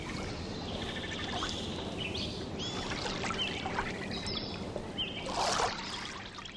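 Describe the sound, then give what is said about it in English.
Boats creak and knock softly from gentle wave action on lapping water at the marina at Norrie State Park in Statsburg on the Hudson River, very early in the morning, while tree swallows chatter in quick, bright bursts, with a steady watery wash underneath throughout. “Listen for the sounds of boats creaking from gentle wave action while tree swallows chatter”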